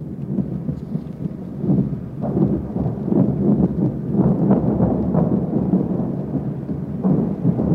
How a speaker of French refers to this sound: Une page d'histoire, voici le son d'un raid aérien, la nuit à Londres.